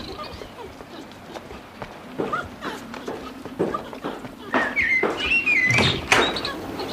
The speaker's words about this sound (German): Schönes altes Haus. Der Türklopfer. Ich klopf mal. Hoffentlich ist jemand zu Hause.